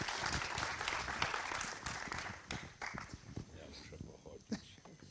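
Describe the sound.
An audience claps steadily, a dense patter of many hands that thins out and becomes more scattered toward the end, with some shuffling and a few voices underneath.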